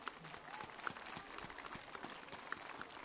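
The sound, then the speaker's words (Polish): An audience at a gathering broadcast on TV Trwam applauds to welcome one another and the viewers, steadily for about three seconds, a dense crackle of many hands clapping at once, fairly soft overall with a few sharper claps standing out. “Gorącymi oklaskami witamy siebie nawzajem, ale witamy także wszystkich widzów telewizji Trwam, którzy w tym momencie są razem z nami.”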